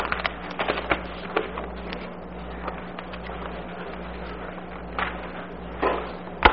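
Dry rustling and crinkling as a piece of paper is picked up and shuffled, with a few sharper crackles scattered through the handling over a low steady hum. No one speaks.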